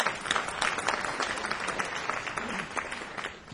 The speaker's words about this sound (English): You needn't applaud an eccentric man.